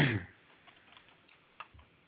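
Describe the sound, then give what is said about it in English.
Sparse, faint clicks of typing on a computer keyboard by a participant on a live online show, a few irregular taps spread over two seconds after a brief louder thump at the start, with no voices. “I hear typing in the background.”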